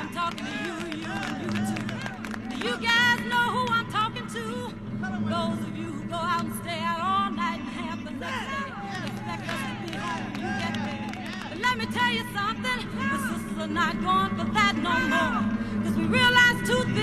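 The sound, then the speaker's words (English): A live concert crowd cheers and claps steadily over music, with whoops and shouting voices rising and falling throughout, building excitement at the opening of a song. “Like you have the crowd hyped up and you're just trying to build up to something.”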